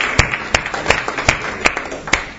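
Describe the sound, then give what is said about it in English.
A crowd claps together as an offering to the Lord in a steady, even rhythm, six sharp unison claps in quick succession, fairly loud, with a faint murmur of background noise underneath. “Somebody give a clap offering to the Lord.”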